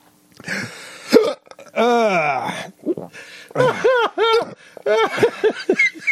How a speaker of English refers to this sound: No, I had the tiniest piece, and I feel like I'm going to have hiccups now. I do have hiccups. I'm having a violent reaction to this.